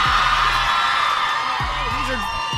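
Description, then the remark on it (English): A small crowd of people whoops and cheers outdoors at a beach in the early morning, in a steady, dense wash of overlapping voices, with a few louder individual hollers rising and falling through the roar. “So we have a crowd here. Our good friends came out in the middle of the night just to join us here at the beach.”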